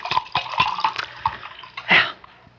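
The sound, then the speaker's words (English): Liquid glugs and splashes as a drink is poured to refill a little glass, a string of uneven bursts, ending in a fuller gush before a brief quiet settle. “Have to refill this little glass.”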